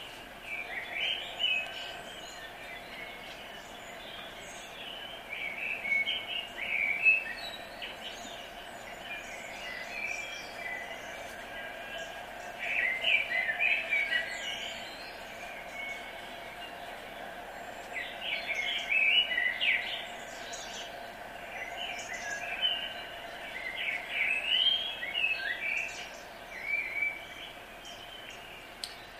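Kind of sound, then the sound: bird, common blackbird singing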